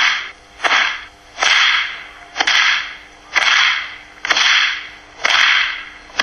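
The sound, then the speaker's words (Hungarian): A whip is swung and cracked again and again, roughly once a second, in a light, elastic cracking style rather than with force. Each sharp, light snap follows a rushing whoosh through the air, with no voices. “A pattogás az egy szép, könnyű, elasztikus. Ez a pattogás.”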